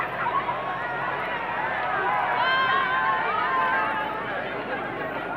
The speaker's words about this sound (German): Und hören Sie auch hier an der Einfahrt zur Beusselstraße den Jubel der Menschen.